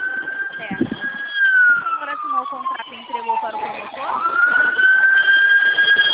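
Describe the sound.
A loud ambulance siren wails steadily, its pitch sliding slowly down and then climbing back up, close by and filling the whole stretch, with faint voices murmuring beneath it.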